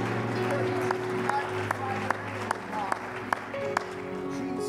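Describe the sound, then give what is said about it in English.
An audience applauds a speaker in praise in a steady wash of clapping, with a few sharper, louder claps standing out, over sustained organ-like musical tones and a murmur of voices. “Why don't you give him one more rousing hand clap of praise tonight before you're seated for the word of God that's forever settled in the heavens.”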